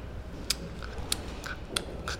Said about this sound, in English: So I tried to go to bed and then try to sleep. And then at midnight, I can hear the sound of a clock.